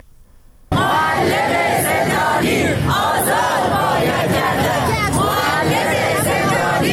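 Retired teachers and civil servants protesting in front of Iran's parliament in Tehran chant slogans in unison in support of imprisoned workers and teachers, a loud, dense wall of many voices rising and falling in a steady rhythmic cadence, starting abruptly after a brief quiet moment.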